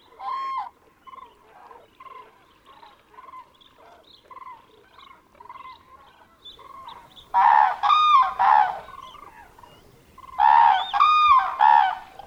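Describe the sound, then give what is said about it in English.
A flock of wintering birds calls in late February, harsh, honking cries in a steady stream of quieter calls, then two loud bursts of overlapping honks near the end. “As it happens in this scene to these groups of birds”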